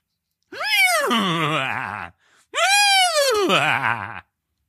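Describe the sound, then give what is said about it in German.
A person imitates a horse's whinnying laugh: two loud, drawn-out vocal calls, each rising and then sliding down with a shaky, wavering tremble, separated by a brief pause. “Mach mal ein lachendes Pferd.”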